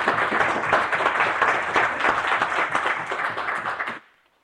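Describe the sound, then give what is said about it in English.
Members of a legislative chamber break into a steady round of applause, many hands clapping densely together for about four seconds before it stops abruptly, with no talking over it. “Speaker, please, I'd like for the body to, at this time, to give those members a round of applause for their efforts.”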